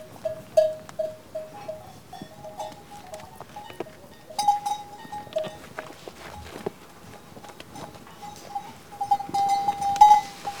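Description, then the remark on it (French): A flock of ewes bleats repeatedly in a mountain pasture, several overlapping calls, over a steady shuffle of hooves and scattered clattering steps outdoors. “C'est pas si tranquille que ça aussi, la vie d'une brebis.”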